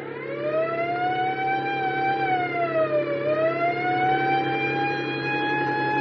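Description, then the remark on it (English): A police car siren (Car 4) wails continuously as the car heads after a truck, its pitch sliding slowly up and down in long sweeps. It sounds loud, with a steady engine-like rumble underneath and no voices. “Step on the siren.”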